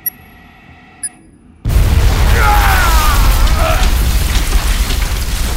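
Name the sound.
grenade explosion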